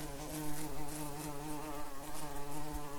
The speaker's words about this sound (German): Nein, die ist zwar auch groß, aber viel dicker. Das ist eine Drohne, ein Bienenmann. Sie sorgen mit der Königin zusammen für den Nachwuchs.